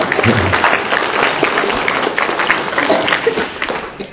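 A crowd applauds the women of the community steadily, a dense wash of overlapping claps that stays loud and even for several seconds without letting up.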